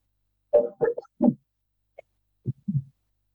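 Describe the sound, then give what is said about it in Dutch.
A quick run of three or four sharp, throaty coughs, a short pause, then two lower, softer coughs. No one speaks. “Ik moet even hoesten.”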